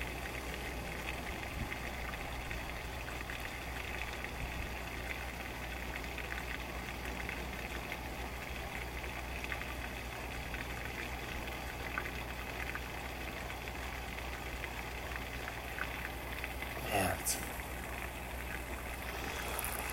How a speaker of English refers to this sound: At least I'm putting diesel fuel in a diesel tractor. At least there's that.